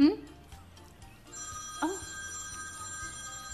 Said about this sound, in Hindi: एक मिनट दोस्तों, मेरा फोन बज रहा है, एक मिनट मैं देखूँ किसका नंबर है ये।